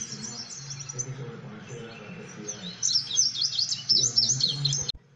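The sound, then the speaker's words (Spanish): Birds sing and chirp in a garden full of flowers, a steady chorus of high, twittering calls that grows busier and brighter toward the end, with a low ambient hum beneath. “Se escuchaba el canto de las aves.”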